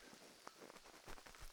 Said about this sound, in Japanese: せっかくご旅行ですけど、悪いことばかりじゃないですよ。しとしと雨音を聞きながら、